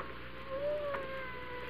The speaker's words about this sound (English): You know, it's funny. I hear a cat. He must be right in this room, but I don't see him.